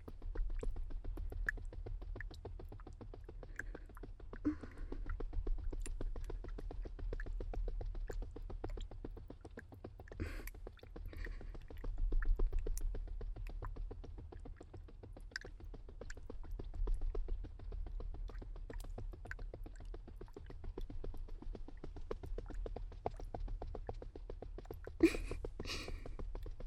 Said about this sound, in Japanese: 振動が気持ちいいですよね。凝っているときは無理に押してほぐすよりも、こうして軽く叩いてほぐした方が効果的ですよ。